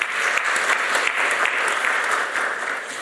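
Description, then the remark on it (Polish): Warm applause from an audience at an event, welcoming its co-organizers, including Dr. Adam Koziołek, president of Polskie Wydawnictwo Rolnicze. It is a steady, dense patter of many hands clapping at once, sustained and fairly loud throughout with no voices over it. “Witamy serdecznie, brawa gorące.”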